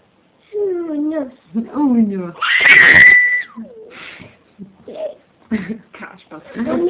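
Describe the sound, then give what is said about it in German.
A voice makes a couple of drawn-out, wavering meow imitations of a cat, then breaks into a loud, high squeal, followed by brief babbling vocal sounds. “Die Katzen. Wie machen die Katzen?”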